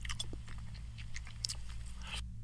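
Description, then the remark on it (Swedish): Wet, slurpy eating by a person who barely chews, taking a bite and then swallowing, with quick irregular smacks and mouth clicks over a steady low hum, and no one talking. “Nej, det är när man äter och när man knappt tuggar.”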